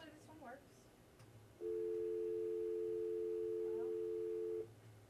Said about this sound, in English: Looks like we got a phone call.